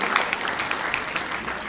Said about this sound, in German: Wenn ihr es nicht mehr hört, sie klatschen noch, vielleicht machen wir ein paar Zuhörer.